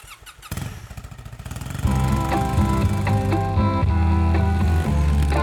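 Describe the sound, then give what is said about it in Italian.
A motorcycle, once green and now painted blue, putters with a rapid low throb, then grows louder into a steady, sustained roar with droning harmonic tones. It is prominent, with no talking. “Tu che mi stai ascoltando mi avrai già visto in giro in moto, che prima era verde e poi l'ho fatta azzurra.”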